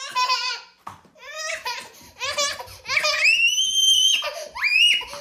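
A 2-year-old girl fusses and screams over a broom, with choppy, whiny bursts of crying giving way to long, shrill, high-pitched shrieks that stay loud through the end.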